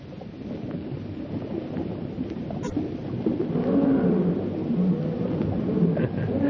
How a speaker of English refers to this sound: Fellow sounds hungry. Lions appear to be always hungry.